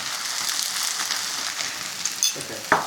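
Vegetables and tofu, with crushed garlic and salt added, fry in a pan with a steady, hissing sizzle and crackle as their water cooks off, punctuated near the end by a few sharper pops and spits.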